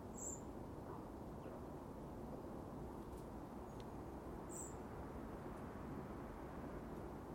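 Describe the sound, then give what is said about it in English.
A dunnock in a tree, on a bright morning with a clear sky, gives two short, high-pitched bursts of song several seconds apart, thin and bright above a steady low rumble that fills the whole recording. “It's the wee dunnock up in the tree.”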